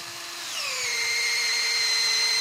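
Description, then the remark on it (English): A power drill spins up after a moment into a steady, high-pitched whine, fairly loud, as it bores a tap hole into a tree for collecting sap. No one speaks. “And if the drilling and tapping go according to plan, you put in a tap and hang up a bucket, and sooner or later, you hear this.”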